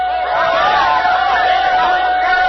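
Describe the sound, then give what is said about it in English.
A large crowd cheers and shouts as the Tom Thumb locomotive arrives, a dense, continuous roar that stays loud throughout, with the locomotive's thin, steady whistle running underneath the din. “Perhaps you heard it over the noise of the crowd.”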